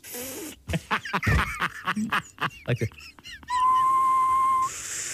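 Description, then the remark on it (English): A run of short breathy, squeaky bursts gives way to a single steady whistled tone held for about a second, fairly loud, like someone whistling by drawing air inward. “Just because you think I'm upset that I can't whistle. Try it sucking in.”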